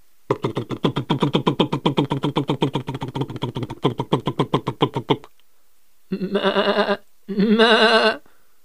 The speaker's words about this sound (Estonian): Määgisid voonakesed teine teise võidu.